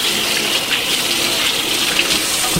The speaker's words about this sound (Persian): خب بشقاب رو یه آب میزنم.